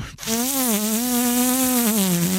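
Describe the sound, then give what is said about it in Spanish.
A person hums a steady, nasal buzz imitating a hovering police drone, holding one wavering pitch for about two seconds with a rich, rasping edge, fairly loud. “¿Sabes qué me sale también? El dron, tío, de la policía.”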